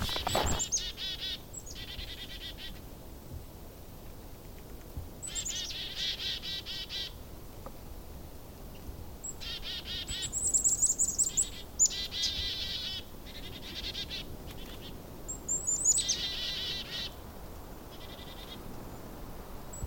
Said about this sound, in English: Do you recognize the sound of the black-capped chickadees? How about the white-breasted nuthatch? A favorite winter activity is watching birds at the feeders.